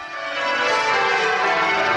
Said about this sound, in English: At the abbey where kings and queens have been crowned since William the Conqueror in 1066, bells rang out to mark the arrival of Charles and Camilla.